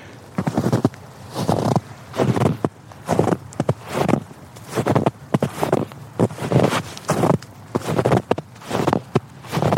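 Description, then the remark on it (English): Steady footsteps crunch through snow, each step a broad, gritty burst in a regular walking rhythm, with no one speaking. “Whoa, listen to the crunch on this snow.”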